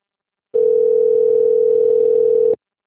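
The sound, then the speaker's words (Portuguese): A telephone ringing tone sounds once as a single steady, unbroken beep lasting about two seconds, loud, with silence before and after and no one talking, just before the call is answered. “Mas deve ter atendido o telefone, ó.”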